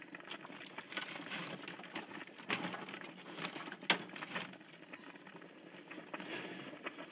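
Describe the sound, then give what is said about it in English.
A pot of water bubbling on the stove, a steady, dense crackle of small pops and gurgles with a few sharper clicks, fairly quiet and with no one talking. “You hear it bubbling away.”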